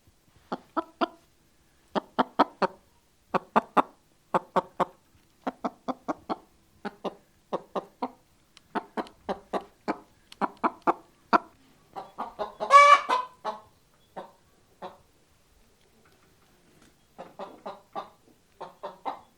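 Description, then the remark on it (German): A chicken clucks steadily in quick bursts of short, sharp notes, with one louder squawk partway through; clear, no voices. “Chicken. Tavuk. Huhn.”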